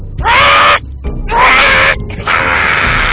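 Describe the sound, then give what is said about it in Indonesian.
A crow caws three times, loud, each call a harsh, raspy, drawn-out squawk, the last one stretching longest, with brief gaps between them. “Mana musuhnya? Itu, seekor burung gagak.”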